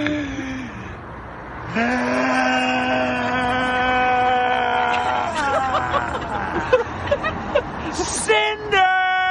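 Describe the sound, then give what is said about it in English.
A voice mimics a Tesla driving away after a U-turn, a buzzing hum that holds steady, wobbles through a few revs, then climbs sharply in pitch as if speeding off. “Drives away. Fucking zips by.”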